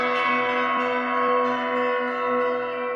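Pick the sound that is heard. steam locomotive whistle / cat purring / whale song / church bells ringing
church bells ringing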